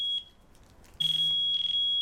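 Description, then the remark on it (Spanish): A mobile phone alarm clock goes off in the morning with a shrill, high electronic tone: a brief chirp followed by a loud, sustained stretch of rapid pulsing beeps, piercing with no voices, until a man waking up switches it off. “Apaga el despertador de su teléfono móvil.”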